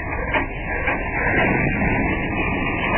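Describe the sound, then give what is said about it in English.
An old car engine sputters and grinds as a man who has got into the car tries to start it, a rough, steady mechanical rumble with uneven pulsing, fairly loud and with no voices over it. “He's getting into his car.”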